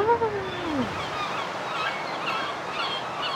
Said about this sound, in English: like this moment from the green roof of the Javits Center in New York City while exploring their herring gull colony. Okay, look at this. See, they're learning how to fly right now.